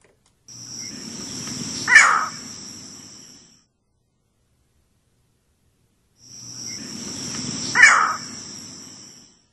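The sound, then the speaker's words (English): Two harsh, abrupt green heron calls, spaced several seconds apart, ring out clearly against a steady background of buzzing insects and a low outdoor rumble. “And Bill, one of the birds that you suggested that we might want to listen to some audio of is a green heron.”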